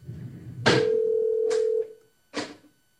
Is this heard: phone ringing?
yes